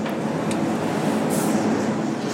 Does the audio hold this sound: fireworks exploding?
no